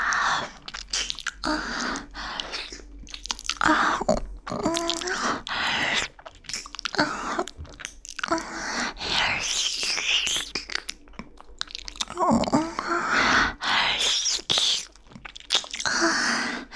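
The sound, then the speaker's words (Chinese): Steady, loud chewing and crunching of breakfast food, with dense, irregular bursts of crisp, wet mouth noises and brief pauses between bites, continuing throughout. “这是我的早点，对不对？”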